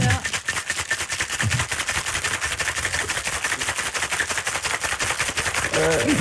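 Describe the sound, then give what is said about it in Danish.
A cocktail shaker rattles hard and fast, a steady stream of sharp, clattering hits that continues for several seconds, with faint voices in the background. “Som kvinde skal man have sports-BH på, når man gør det der, tænker jeg.”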